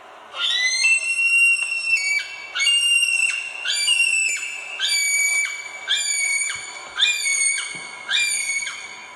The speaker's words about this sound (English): And their call is designed, I think, to travel through forest. It's a high screaming call. So here's a male kiwi.